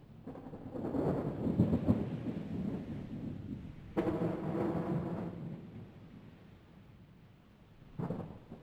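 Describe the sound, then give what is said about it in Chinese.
A tropical afternoon thunderstorm in Kuala Lumpur in March, with deep, rumbling thunder rolling in three broad waves, the loudest near the start and middle, over a steady wash of rain hiss. No one speaks. “在3月4号到3月13号之间的某一个下午，我录下了接下来这段的雷雨声。”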